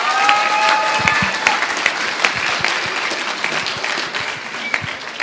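A crowd at a church gathering applauds steadily for about five seconds for a young woman about to speak about her camp experience: a dense wash of clapping with a few brief whistles or cheers on top and no spoken words.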